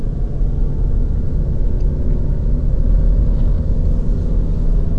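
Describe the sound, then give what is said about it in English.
A car engine rumbles behind the listener near a park on a hot day, a steady, heavy low drone that holds fairly loud throughout with no talking over it. “Oh, there's a car behind me.”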